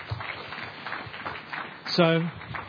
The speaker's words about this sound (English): Thanks, guys. Thanks. Give them a clap. Okay?